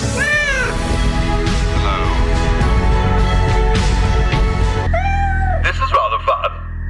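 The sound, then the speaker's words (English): A cat meows several times, drawn-out, rising-and-falling cries spaced over a few seconds, over a dense, continuous background that sounds partly like a voice. “Now, it's not true in the sense I don't think it actually can read your cat's mind, but it is a collar that you can get for your cat, so whenever it meows, you'll get a human voice.”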